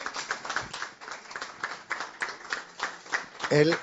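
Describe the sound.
A crowd applauds steadily for several seconds, a dense wash of many hands clapping, with a brief voice or cheer rising near the end.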